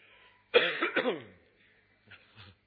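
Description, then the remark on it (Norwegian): A sharp, loud cough bursts out, a harsh double hack, followed a moment later by a softer, quieter pair of coughs with no talking; a speaker coughing at a microphone during a talk. “Det er et problem med den type mikrofon her. Det er at man kan ikke hoste.”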